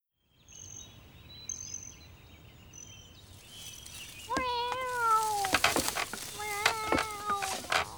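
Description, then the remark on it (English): A frightened cat lets out a few strained, wavering meows, one long drawn-out cry followed by shorter anxious ones, over faint high chirping in the background. “The cat is scared.”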